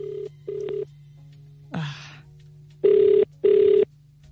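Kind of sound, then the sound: signal or alarm, telephone ringing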